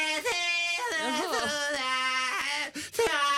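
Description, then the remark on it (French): A naked, smiling newborn baby hums the Internationale: a wavering melody of sustained, sing-song tones that rise and fall for a few seconds, with brief breaths between phrases and no other voices. “un âne et un bœuf, et entre eux un petit bébé tout nu qui sourit et qui chantonne.”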